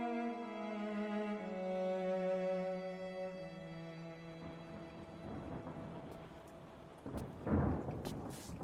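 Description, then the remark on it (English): Sustained orchestral tones fade into a steady hiss of rain, and a loud rumble of thunder rolls in near the end, in Focus on the Family Radio Theatre's production of The Lion, the Witch, and the Wardrobe. No one speaks. “Of course, it would be raining.”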